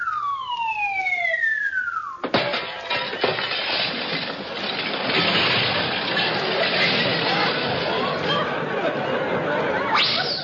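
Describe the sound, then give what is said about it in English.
A descending whistle falls in pitch for about two seconds as a diver drops from a 200-foot high board, then a sudden loud crash of shattering glass bursts out as he hits a lake that is glass, clattering and tinkling for several seconds, harsh. “Well, what do you know? It was glass.”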